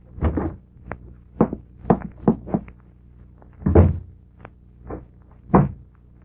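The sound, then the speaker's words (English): A door being worked open to introduce the series The Key: a string of hollow wooden thunks and knocks, about eight of them at uneven intervals, moderately loud, with no voices. “And the opening of this door introduces us to another in the series, The Key.”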